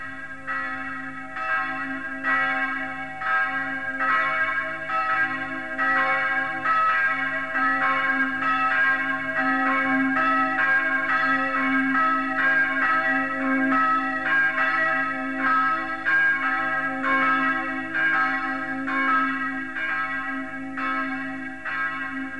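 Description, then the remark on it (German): The bells of the chapel in Volkholz, Wittgenstein, Germany, ring steadily and continuously, their strikes overlapping into a rich, sustained peal with a resonant low hum beneath. The ringing is loud, with no voices present. “schließen wir mit den Glocken der Kapelle Volkholz den Reigen unserer Wittgensteiner Glocken ab.”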